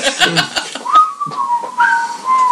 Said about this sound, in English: You can tell they're just waiting, and I'm like, and I just lean against the door frame, cross my arms, and start whistling.